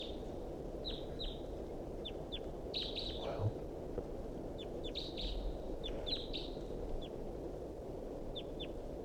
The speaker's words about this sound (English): Still pointing at the wild bird here. He's calling. And decoys are calling on the side. Wild bird's calling rather weakly.